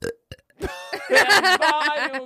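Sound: burp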